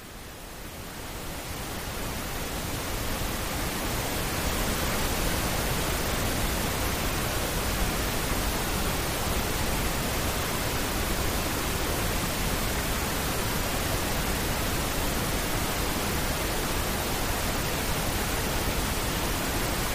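Steady pink noise fills the whole stretch, a smooth, even hiss with a softer top end than white noise, fading in briefly at the start and then holding constant with no voices.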